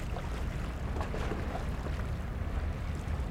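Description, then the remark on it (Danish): Steady wind rushes over the open water of the Øresund strait while small waves wash against the shore, a continuous, even roar with no voices and no distinct individual splashes. “Betragt vandet, bølgerne, vinden, og lyt til lydene omkring dig.”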